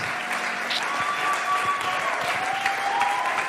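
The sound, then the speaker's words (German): An audience stands and applauds steadily as a woman comes onto the stage, a dense wash of many hands clapping at even loudness throughout, with faint whistles or cheers riding over the top. “Lass uns mal aufstehen und dir einen fetten Applaus geben, während sie auf die Bühne kommt.”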